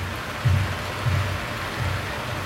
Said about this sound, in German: Alexa, spiele Regengeräusche.